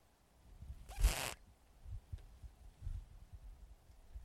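A single quick zipper pull, a bright rasping zip lasting under half a second, fairly loud, followed by faint low thumps and quiet background rumble.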